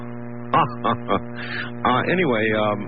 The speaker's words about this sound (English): Oh, I hear wolves. Yeah, that's their wolf tape. I thought I'd try and get a howl for you.